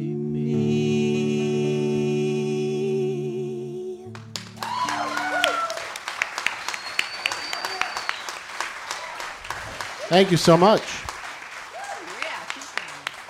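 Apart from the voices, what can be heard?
audience clapping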